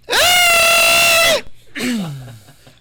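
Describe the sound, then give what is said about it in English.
A person imitates a barn owl's screech with one loud, raspy, sustained shriek lasting just over a second, followed by a short pause and a softer, lower vocal sound that slides downward. “So there are owls are a worldwide phenomenon, and barn owls are basically almost identical anywhere you find them in the world. They're really an interesting species. They make a terrible sound, which I guess I can kind of make.”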